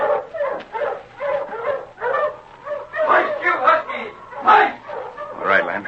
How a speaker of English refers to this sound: Come on before them dogs run off. Ho, you huskies! Ho!